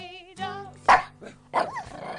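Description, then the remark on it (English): A hound dog lets out a drawn-out whine, then two sharp, loud barks about half a second apart, with a low rumbling growl running underneath. “The Sound Hound is here.”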